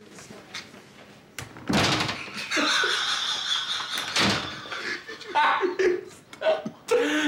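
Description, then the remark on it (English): A door to a nearby room is pushed shut with a solid thump as three men take themselves off into the room, among several other sharp knocks and bumps, while muffled chuckling and indistinct voices run underneath. “take themselves off to a nearby room and close the door.”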